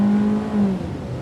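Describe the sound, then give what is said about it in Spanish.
A car engine revs loudly and steadily with a droning hum, then shifts pitch as the vehicle pulls off after people get in, staying strong throughout the short moment with no talking. “Nos subimos al auto y arrancamos.”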